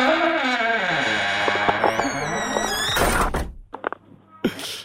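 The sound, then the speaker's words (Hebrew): A loud, drawn-out creaking door groans with a wavering, strained pitch for about three seconds, then gives way to a few sharp thuds and short noisy bursts. “כדי שהדלת שלך לא תחרוק יותר.”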